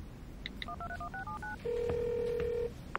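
A phone at home sounds on its own: two short beeps, a quick run of keypad dialing tones, then one long steady ring tone, clear with no talking, before being answered on speaker.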